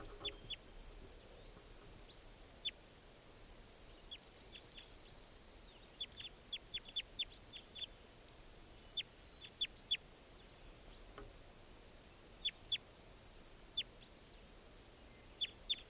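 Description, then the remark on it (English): A male bird, Type 2 and not a female, gives short, sharp, high-pitched chip calls, scattered irregularly and sometimes in quick pairs or clusters, over a steady low background hiss with no voices; recorded at 7:25 a.m. before the bird was collected. “and I just collected that bird who was just calling.”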